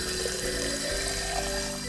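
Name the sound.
water running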